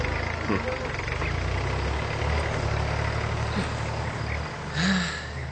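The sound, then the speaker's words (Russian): A tractor's heavy engine rumbles steadily, idling with a low, constant drone, while brief indistinct voices come through over the noise. “Еще проще догадаться о значении такого интернационального слова, если слышно шум, как, к примеру, у трактора.”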